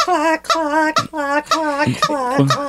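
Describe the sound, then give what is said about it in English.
A person imitates a chicken with a run of voiced, nasal clucks, about six bursts in quick uneven rhythm, fairly loud with no other sounds. “can I cluck along?”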